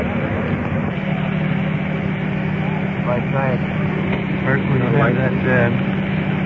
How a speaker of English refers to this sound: That rescue truck turned down a little bit.